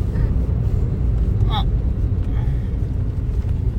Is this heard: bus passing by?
yes